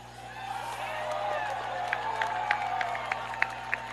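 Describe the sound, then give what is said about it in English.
A large stadium crowd roars steadily, with cheering voices blending into a continuous wash and sharp claps popping out in the second half, loud throughout. “How about this crowd, man? It's absolutely amazing. You guys bring the energy, makes it easy on us, for sure.”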